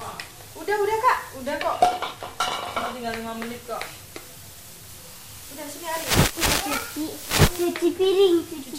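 Dishes and pans clatter in a sink, with sharp clinks and knocks scattered among splashy rustling, while a child and an adult chat nearby throughout.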